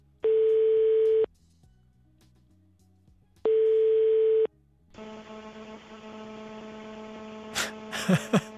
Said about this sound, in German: Also momentan ist es so, dass es nur eher rauscht. Man hört so diese Störgeräusche.